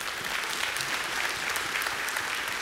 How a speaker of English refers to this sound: Let's clap for that.